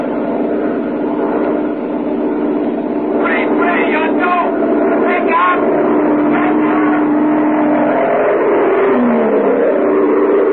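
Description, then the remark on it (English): A steady, loud airplane engine roar with a low droning hum runs through the whole stretch as the pilot takes the plane back into the sky after a failed approach at Tempelhof, heading back for Wiesbaden. Muffled voices speak over it in the middle and near the end. “Why, the pilot took his plane back into the sky after the approach failed and headed back for Wiesbaden, 300 miles away in the American zone.”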